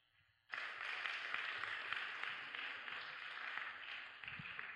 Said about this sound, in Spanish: démosle una bienvenida con un aplauso.